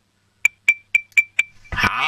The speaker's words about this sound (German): dann holst du dir einen Löffel und ein Glas und dann machst du mal mit dem Löffel so am Glas ein Ding-Ding-Ding-Ding-Geräusch